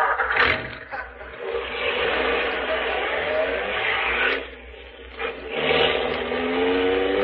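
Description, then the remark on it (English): A car engine roars loudly, revving and accelerating with a rising whine over a steady rush of road noise, surging again near the end, as the car chases another car. “There they are. Right up ahead. Get closer.”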